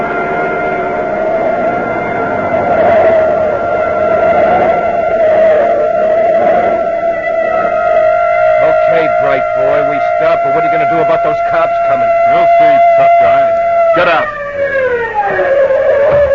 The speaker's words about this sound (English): Hey, a police siren a block behind. Cops, now we are in the stove.